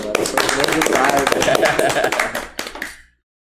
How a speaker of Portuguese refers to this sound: É palmas.